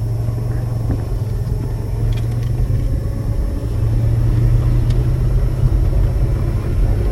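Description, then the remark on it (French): A Citroën Dyane engine runs steadily, a loud low-pitched rumble with a throbbing hum that dips briefly then settles back into a constant drone, with no one speaking. “Et on va écouter le bruit du moteur.”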